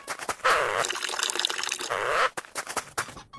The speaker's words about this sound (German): Das Auto fährt mit Blaulicht los, der Beamte rigoros unter Drogen in Ekstase, drückt ihn sakrisch seine Blase. Da werden wir noch mal stehen bleiben müssen, nur mal kurz zum Blärme gießen.